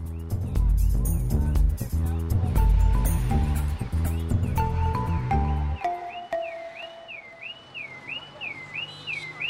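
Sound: car alarm going off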